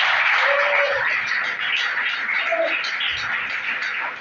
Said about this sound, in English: Clap your hand for our Lord Jesus.